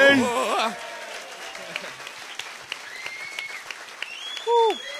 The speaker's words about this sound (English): Round of applause for the crew.